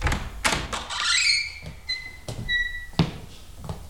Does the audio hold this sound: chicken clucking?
no